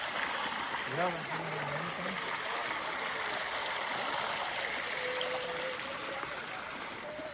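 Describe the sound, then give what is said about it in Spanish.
Water from a large fountain in palace gardens, surrounded by yew trees, pours and splashes in a steady, full rushing wash that runs the whole time, with a brief faint voice or two heard beneath it. “Esto ya es una fuente un poquito más grande.”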